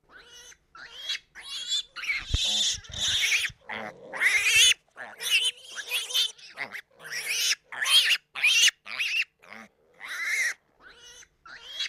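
A young Duroc piglet on a small pig farm in County Monaghan grunts and squeals in a rapid string of loud bursts, high-pitched squeals mixed with lower snorting grunts, with only brief gaps between them.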